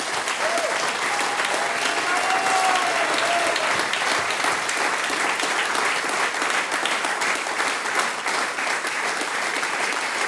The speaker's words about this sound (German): Großen Applaus für die vier Herrschaften.